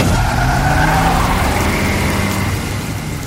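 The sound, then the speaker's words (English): A car engine revs hard and pulls away, tires hissing over wet ground amid a steady wash of heavy rain; loud, easing slightly as it departs. “As we drove away, my eyes remained transfixed on this shadowy figure standing there in the pouring rain.”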